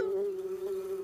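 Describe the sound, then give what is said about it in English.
A steady, droning hum of bees buzzing, a sustained tone that wavers slightly in loudness without pause and with no voices. “I can't hear you over all that buzzing.”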